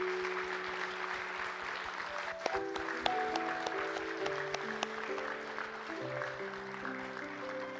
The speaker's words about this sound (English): Church, can we give a round of applause for all the children and actors today?